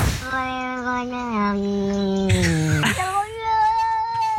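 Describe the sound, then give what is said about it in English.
Two cats trade long, drawn-out meows back and forth, one a sustained wavering yowl and the other answering with a shorter, higher cry, both loud. “one cat says, "When you gonna hug me?" And the other says, "I don't know." They're having a little bit of an argument”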